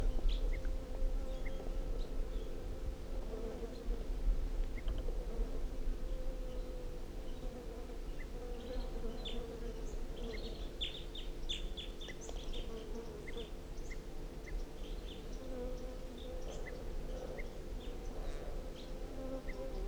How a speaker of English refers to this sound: So we're recording the wild bird, 8:47, and it's giving alarm calls.